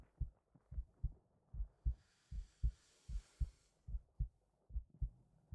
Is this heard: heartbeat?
yes